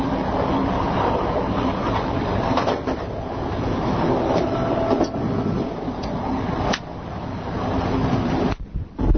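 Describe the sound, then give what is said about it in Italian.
Steady rumbling roar from inside a moving train bound for Milan at 8:10 pm, while walking to the smoking area; wheels run over the rails with occasional sharp clicks and knocks, continuous, dipping briefly near the end before resuming. “Siamo sempre sul treno, sono le ore 20:10 e stiamo andando in zona fumatori.”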